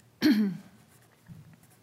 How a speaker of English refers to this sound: Excuse me, I'm so sorry. I'm trying to stave off a cough.